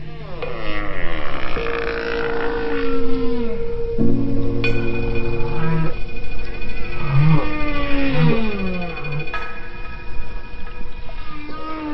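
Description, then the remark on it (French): Humpback whale song: long, sweeping tonal moans and rising and falling whoops, some low and grunting, others higher and wavering, following one another continuously with no voices present. “Prouvant par là que les baleines s'écoutent, s'influencent et prêtent une oreille attentive aux mélodies de leurs voisines baleines à bosse, si éloignées soient-elles.”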